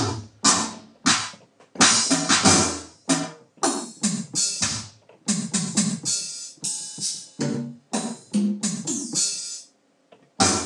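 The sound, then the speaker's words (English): An electronic drum preset from a vintage keyboard plays steadily, with crisp snare and hi-hat hits over low thumps in a repeating rhythm, fairly loud, with no talking. “Oh, drums.”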